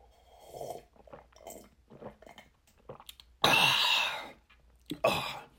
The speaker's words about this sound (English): We have the best coffee on Earth. It's from the mountains of Machu Picchu out there, and I'm going to take a sip of the Patriot coffee.